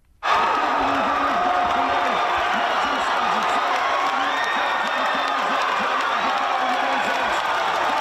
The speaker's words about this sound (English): The crowd was already roaring with Emma Twigg grabbing gold